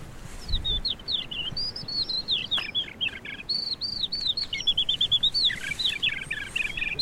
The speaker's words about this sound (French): On entend très bien l'alouette, quand on est au loin tout à l'heure. L'alouette des champs.